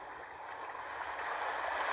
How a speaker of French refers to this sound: Voilà, prends le temps de sentir ce rythme, ce va-et-vient des vagues qui remontent et qui repartent vers l'horizon.